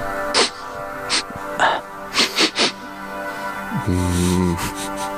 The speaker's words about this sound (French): Pour vous dévoiler la réponse à cette question, je vais renifler un sphincter de renard péruvien.